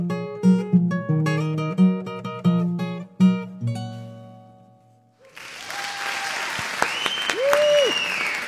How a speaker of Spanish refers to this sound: Así van a estar aplaudiendo, no, mucho más en el Teatro Jorge Eliécer Gaitán, que le cabe, no sé, como 2,000 personas, ¿no? mil y piquito, ¿no?